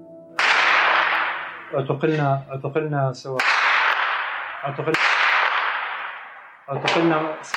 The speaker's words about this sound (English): In one scene, an interview with 2 activists in the city of Daraya keeps getting interrupted by distant gunfire.